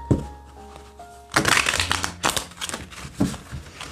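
A deck of tarot cards is shuffled in several quick, papery bursts of riffling and slapping, following a quieter opening with a low steady hum and faint tones.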